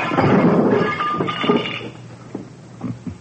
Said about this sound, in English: Okay, Thurston. So you smashed the lamp. As soon as my eyes get used to the dark, I'll find you easily enough.